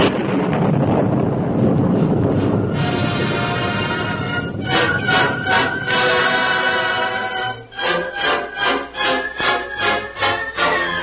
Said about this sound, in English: Listen. Thunder. Yeah, thunder. And that means rain instead of the scorching sun.